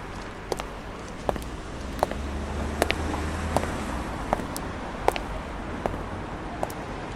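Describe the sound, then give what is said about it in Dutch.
Steady roar of city traffic at the busy Vlaamse Poort crossroads in Brussels, Belgium, with a low engine rumble underneath and sharp footsteps clicking at irregular intervals. “Het kruispunt van de Vlaamse Poort is een van de meest intense, drukke plekken die Brussel kent. Wat het verkeer betreft, de dagelijkse bewegingen, het amalgaam van bevolkingsgroepen die we er aantreffen.”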